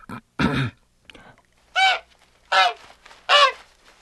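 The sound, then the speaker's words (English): A person imitates a goose with a series of loud honks: two quick rough blasts, then three evenly spaced nasal honks, each about half a second long, with no talking. “It's a goose. That's right.”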